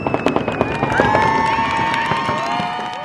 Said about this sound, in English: But the people of Chibeug Island, Maine, are celebrating just 3 days of self-government. In fact, islanders staged their first ever fireworks display Sunday night.